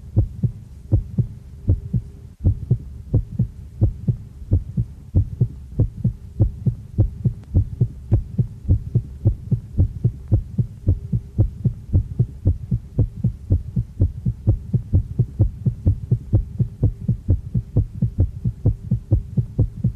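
A steady, rapid heartbeat thumps low over a soft droning hum in a South African music track, pulsing evenly without pause; no one speaks.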